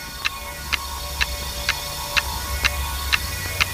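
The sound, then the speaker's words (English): A watch's balance wheel escapement ticks steadily, eight crisp clicks evenly spaced about twice a second, the escapement lever released at each turn of the balance wheel, over a faint low hum with no voices. “At each turn of the balance wheel, the escapement mechanism releases the locking of an escapement lever, ticking off the constant rhythm you need to measure time.”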